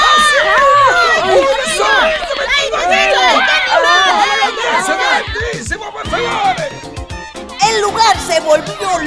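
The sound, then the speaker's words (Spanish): A panicked crowd in a recreation hall screams and shouts all at once as they flee a skunk, many overlapping yells, with scuffling running footsteps and sharp clattering knocks of tables and chairs being overturned midway through, loud throughout. “Todos empezaron a gritar, a correr y a voltear mesas y sillas para salir de ahí.”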